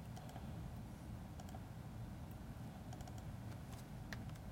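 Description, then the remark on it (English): Steady computer keyboard typing with scattered sharp key clicks over a constant low background hum, no voices, continuing throughout. “Again, the keyboard.”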